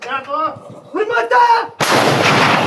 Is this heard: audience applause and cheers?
no